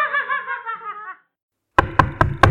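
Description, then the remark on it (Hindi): A brief giggly, sing-song voice fades out, then after a short pause come five quick, loud knocks on Poli's door in a fast rhythm. “पोली, अरे ओ पोली, जल्दी खोल दरवाजा।”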